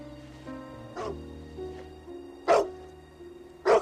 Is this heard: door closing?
no